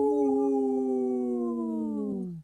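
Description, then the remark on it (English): Two human voices on Native Roots Radio imitate a wolf howl: one long, steady, tonal wail that slowly slides downward in pitch, then cuts off abruptly after about two seconds, loud. “I only heard two voices there. But hey, we are here with two howls.”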